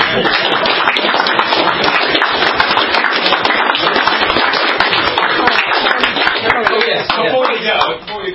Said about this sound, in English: Then I think there's only one thing we can do, and that's clap our panel and prepare to the bar.